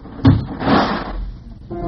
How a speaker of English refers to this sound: Mary, next time don't slam the door so hard it turns on the radio.